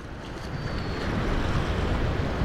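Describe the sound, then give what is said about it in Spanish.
A steady, dense wash of rolling sea swell, waves churning continuously with a broad roar and no clear breaks, mixed with rumbling wind-like noise throughout. “Marejada.”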